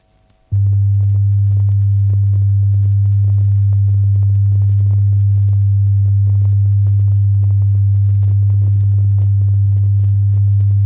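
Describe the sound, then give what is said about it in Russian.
A single steady, low-pitched pure tone from a test recording, played to check that the left and right loudspeakers are correctly phased, begins after a brief moment of near silence and holds at constant loudness for about ten seconds, with no voices or other sounds. “и правый громкоговорители надо сдвинуть вплотную друг к другу и, не нарушая предыдущие регулировки, прослушать запись чистого тона.”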